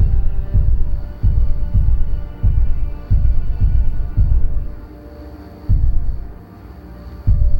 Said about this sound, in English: It's a very loud... footprint sound. Oh, sounds like one of those dragons in the old Dungeons and Dragons game from Intellivision.